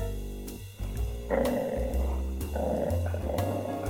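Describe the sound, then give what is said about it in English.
A dog growls low and steady, a deep rumbling snarl that rises in intensity and continues for several seconds with no one speaking. “stop growling!”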